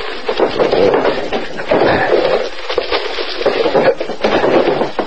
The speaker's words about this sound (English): I'll open some of the drawers in this chest.